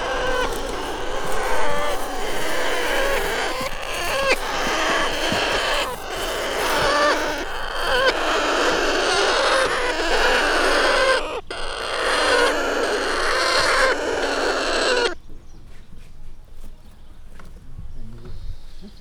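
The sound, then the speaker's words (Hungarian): A loud chorus of Alexandrine parakeet chicks, about one month old, calling: harsh overlapping squawks running continuously for about fifteen seconds before cutting off abruptly into near silence. “Milyen állat, milyen madár? Ezek nagy Sándor papagájok.”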